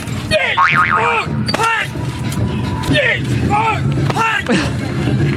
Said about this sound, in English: A village in China used to have 80 guys who were considered experts. Now there are only 5. This is what it sounds like when they do that. Hi, hi, hi, hi. They're punching themselves in the junk.